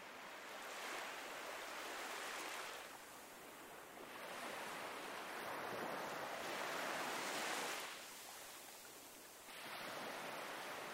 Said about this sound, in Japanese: ね、気持ちいいよね。こんな波の音が、ずーっと聞こえるの。